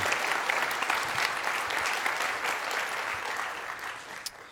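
An audience applauds steadily, a dense wash of clapping that holds at an even level for several seconds before easing off slightly near the end.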